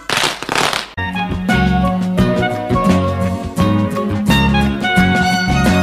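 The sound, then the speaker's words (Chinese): A loud, dense burst of crackling from firecrackers set off for the New Year lasts about a second, then cuts off as upbeat festive music with bright sustained tones and a steady beat takes over. “哎，你们要不要跟我一起来放鞭炮啊？”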